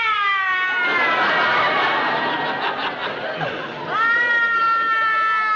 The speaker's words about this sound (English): I can't stand to see a woman cry.